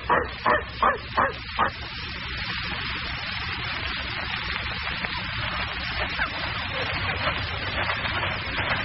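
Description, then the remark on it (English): A dog barks five times in quick, evenly spaced succession, loud and sharp, then falls silent as a steady low hum and hiss carry on underneath. “Mr. Cranston, Rex is pulling you toward the door. Yes. You keep the other dog here”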